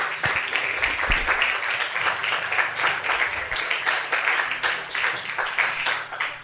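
A crowd applauds steadily to welcome a speaker being introduced, many hands clapping in a dense, continuous patter that holds at a fairly even loudness throughout, with no voices rising above it.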